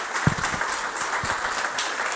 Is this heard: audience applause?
yes